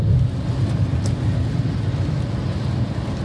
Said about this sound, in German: es regnet auch jetzt die ganze Zeit während der Autofahrt schon.